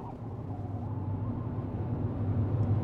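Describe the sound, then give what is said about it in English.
A car drives out of Tombstone with a steady, low engine and road rumble that holds at an even level throughout, heard as if from inside the vehicle. No voices. “There are many questions spinning in our heads as we drive out.”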